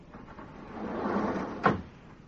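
An automatic door, opened by pressing a button, slides open with a rising mechanical whoosh that swells for about a second, then stops with a single sharp clunk before fading to quiet hiss. No one speaks.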